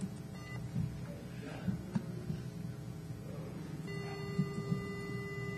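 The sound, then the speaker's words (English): An annoying electronic beep, a steady high-pitched tone that switches on toward the end and holds, over a low background hum with faint soft thumps. “That's a really annoying beep, yeah.”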